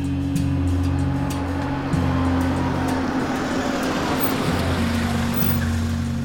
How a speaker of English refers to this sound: April 20th, 1968. A car pulls up to Pannone's Meat Market.